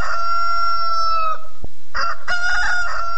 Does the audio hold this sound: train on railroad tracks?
no